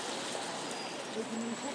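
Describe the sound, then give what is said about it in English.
Steady rain falling outdoors during a walk with a dog named Vance, a constant broad hiss of drops that holds evenly throughout without pause, moderately loud. “Don't know where this rain came from.”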